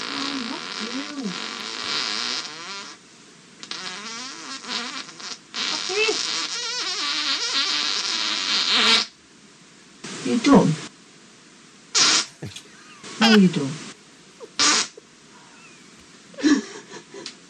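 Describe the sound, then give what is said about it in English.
A long, drawn-out fart rasps and buzzes for about nine seconds, loud, with a wavering pitch, followed by a few short bursts of voices talking. “This is called Long Fart.”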